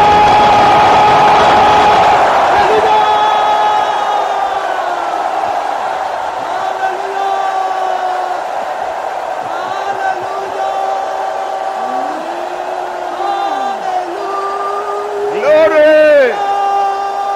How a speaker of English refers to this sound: Well, are you ready to shout? Let me hear you shout hallelujah.